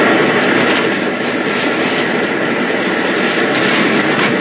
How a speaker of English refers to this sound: You think you're going to be rescued by that plane and leave me behind, but it ain't going to be like that.